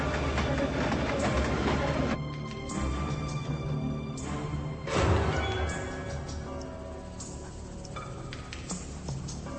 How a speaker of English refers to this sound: Let me tell you, you haven't seen America till you've seen it from a train.